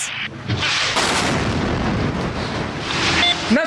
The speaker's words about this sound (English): They were alerted to the first explosion, went out, and then while they were there, they saw a plane circling back and then this second missile strike.